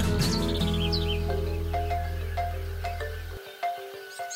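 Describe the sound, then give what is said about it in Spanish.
Birds sing in bright, repeated chirps and short descending trills over a steady low hum that cuts out near the end, leaving the calls clearer and more spaced apart. “La carretera austral es un paraíso para la observación de aves.”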